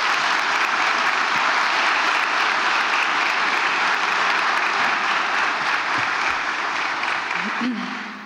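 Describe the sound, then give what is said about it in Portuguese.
Sustained applause from an audience for the people who worked on the project, a dense, steady wash of clapping that holds at full strength for several seconds before tapering slightly at the very end. “Peço um aplauso para eles, porque isto é um trabalho deles também.”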